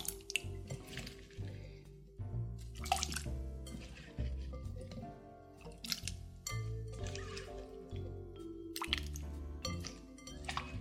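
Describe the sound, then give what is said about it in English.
Wet, squishy plops and drips as drained potatoes tumble into a medium pot of chicken stock, with occasional light clinks and splashes in an irregular rhythm, moderately loud, no talking. “Okay, so my potatoes are drained. I'm gonna add them to my medium pot with the chicken stock.”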